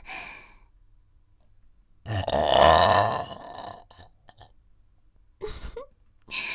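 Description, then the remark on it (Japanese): A single long, loud burp, held back and saved up before being let out, rumbles for about a second, with soft breathing and a few quiet mouth sounds before and after. “はい、エロゲップ出ます。”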